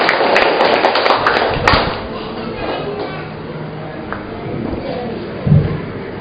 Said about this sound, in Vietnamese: Chúng ta cho một tràng pháo tay gặp gỡ người chị em này.